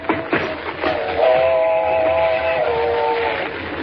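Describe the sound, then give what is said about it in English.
A train rumbles steadily, growing louder, as a sustained, chord-like whistle blares for a couple of seconds over the clatter. “Mr. Kent, there she comes. Thank heavens we're near the tracks.”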